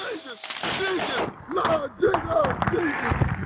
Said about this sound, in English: So they were setting off fireworks, and then they just start a fire.